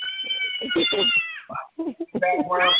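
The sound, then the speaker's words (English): A young girl, the host's daughter, screams and wails in the background during a live radio show, in high, drawn-out, rising cries, loud and nearly continuous across the moment, with a voice talking underneath. “You hear my daughter in the background screaming her lovely head off.”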